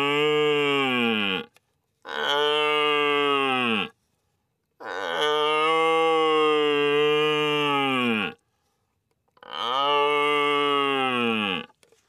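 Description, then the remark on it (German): A young stag bellows four times, calling out in search of females, with long harmonic calls that start high and dip slightly lower, each loud and sustained with short silences between them, no talking. “Dann würde ich jetzt ganz gerne noch, wenn Sie das jetzt noch schaffen, den jungen Hirschen hören.”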